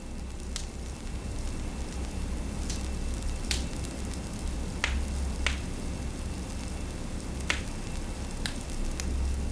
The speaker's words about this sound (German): Stell dir vor, du stehst in einem alten Raum. Die Wände sind aus Stein, das Licht dämpft und in der Mitte brennt ein warmes Feuer.